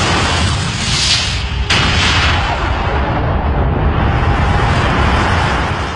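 A massive explosion sound effect representing the Big Bang, the universe bursting into existence: a deep, roaring rumble fills the whole time, punctuated by a sharp crack partway through, then a long, loud, thundering roar that slowly settles. No voices.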